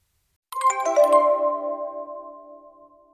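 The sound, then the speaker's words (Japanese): A short electronic phone ringtone plays a quick melodic burst of bright tones, then lingers and fades out, heard alone and fairly clear with no voices. “Telephone, phone call.”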